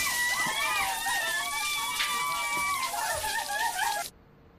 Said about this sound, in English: Claire rushes into the bathroom and Janet turns on the shower.